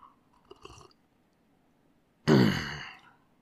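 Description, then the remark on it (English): A single loud, raspy throat clearing with a phlegmy, rough edge from phlegm in the throat caused by a cough, preceded by a few faint mouth clicks and soft rustles in otherwise quiet surroundings. “Oh, between this cough and what's causing it, I end up with an awful lot of phlegm in the throat.”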